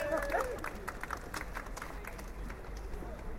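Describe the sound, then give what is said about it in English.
An audience at a local campaign meeting applauds a speaker being introduced, with steady, dense clapping that holds at a fairly even level for a few seconds, with no one speaking over it. “A round of applause.”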